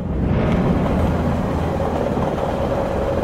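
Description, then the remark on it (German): A steady, loud low-frequency rumble of a nearly empty train rolling along the rails on New Year's Eve, a continuous dense roar with faint rhythmic rattling, with no voices. “Der Zug, in dem Kirsten und Rabbi zurück nach Hause fahren, ist fast leer.”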